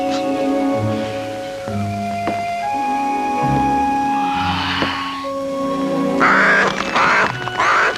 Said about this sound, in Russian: Птицы об осеннюю пору на вешний лад разливаются.